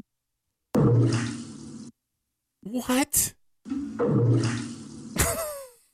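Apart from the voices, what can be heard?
toilet flushing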